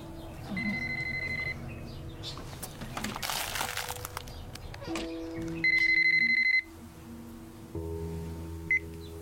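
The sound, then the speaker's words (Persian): A telephone rings with a bright electronic warble in two separate bursts, and a short spell of crinkling plastic falls between them. No one speaks. “تلفن ماست؟”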